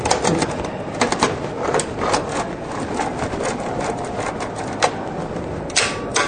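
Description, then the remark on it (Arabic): A mechanical typewriter clacks through a run of sharp, irregular key strikes, fairly loud, ending with a longer ratcheting sweep of the carriage return. No one speaks. “هذا مفتاح السطر، وهذا مفتاح ترجيع العرب.”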